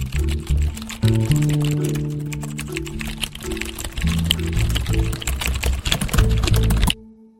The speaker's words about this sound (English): Hearing aids pick up every single noise in a room that you're in. So the sound of a bunch of people getting up for lunch, or the sound of 30 people clicking on keyboards, can be really overwhelming.